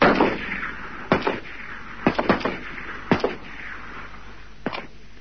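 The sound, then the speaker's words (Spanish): Several sharp gunshots ring out in irregular bursts, some in quick pairs, with echoing reverberation over a low background rumble, as two soldiers fire inside the classrooms of a school at 1:10 in the afternoon, killing three guerrillas and Ernesto 'Che' Guevara; no one speaks. “Al poco tiempo se oyen varios disparos.”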